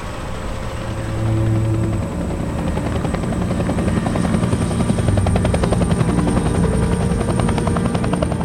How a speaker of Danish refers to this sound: I sådan et kedeligt, råt, surt, modbydeligt, koldt vejr holder vi vores indtog i Amassalik. Så skal vi ombord i helikopteren.